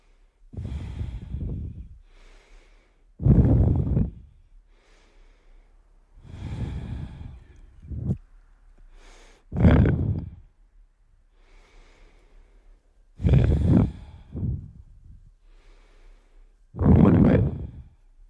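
human body sound, heavy breathing

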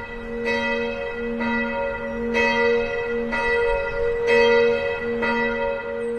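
signal or alarm, church bell ringing

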